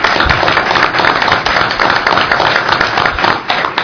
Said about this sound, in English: And I know that y'all are out there working extra hard, and you deserve a round of applause for that.